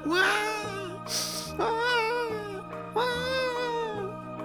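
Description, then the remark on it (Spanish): A human baby crying in the distance, three long wavering wails with a harsh breathy burst between them, over a low steady musical drone. “Eso sí parece el llanto de un bebé humano, dijo Kristen, y se dirigió hacia donde venía el ruido.”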